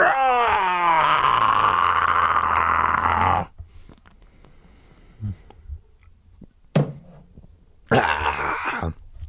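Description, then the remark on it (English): A loud, rough, monstrous roar with an animal quality from a bus driver who tilts back his head, sustained for about three seconds with a falling pitch, followed by near-silence, a few faint clicks, and a second shorter growling burst. “As we gawked in silent horror, the driver tilted back his monstrous head and uttered an animal roar.”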